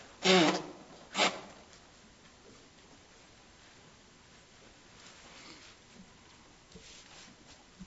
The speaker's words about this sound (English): Let me blow my nose.